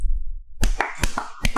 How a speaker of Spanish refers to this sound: Ok, tenemos uno donde producción nos dice aplaudan y nosotros empezamos a aplaudir como pendejos. Ok, vamos, aplaudan.